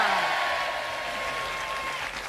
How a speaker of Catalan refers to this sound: és la primera vegada a la vida que veig un tècnic de so que s'aplaudeix a si mateix, eh?